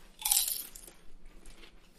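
A loud, crisp crunch of someone biting into food, followed by softer, scattered chewing sounds trailing off over the next second or so, with no talking.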